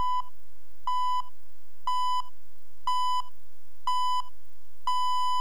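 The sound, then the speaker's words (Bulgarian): A radio time signal marking 12 o'clock, introduced with a Semtel watch-setting cue: a series of steady, high-pitched electronic beeps, one each second, with the final tone held longer, sounding clearly on their own with no voices. “Сверете си часовника Семтел.”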